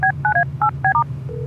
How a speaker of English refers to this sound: While you drive, I'll dial her up on the Larrymobile's Larry phone.